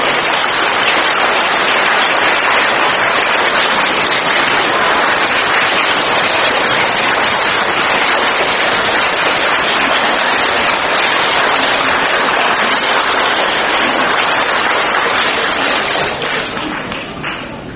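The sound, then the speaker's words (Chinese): A large audience claps warmly in a dense, steady roar of applause welcoming Lu Junhong to speak, holding for about seventeen seconds before it begins tapering off at the very end. “现在让我们用最热烈的掌声恭请我们尊敬的卢军宏台长为我们慈悲开示。”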